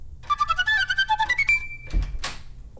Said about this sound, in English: Well, the door has opened, but no one has walked through.